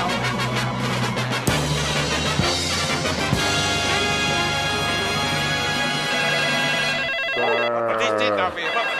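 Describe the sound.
A telephone rings loudly and steadily for several seconds, its bright trilling tone filling the foreground while voices murmur faintly underneath.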